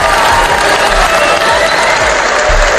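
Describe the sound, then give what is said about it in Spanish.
A large audience at the San Sebastián Festival applauds the first woman to obtain a conviction for harassment, a loud, steady wash of dense clapping that holds at the same level throughout with no pauses, and faint crowd noise beneath it. “Porque tuvieron que pasar años, sentencias, desmentidos y el aprendizaje lento de la sociedad para convertir en unánime el aplauso que ayer le dedicaron en el Festival de San Sebastián a la primera mujer que consiguió una condena por acoso”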